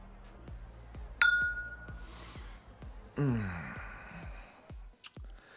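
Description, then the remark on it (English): A single bright clink of champagne glasses touching in a toast, ringing briefly before fading, followed by a soft breathy exhale, over a steady low rhythmic thumping in the background. “Cheers.”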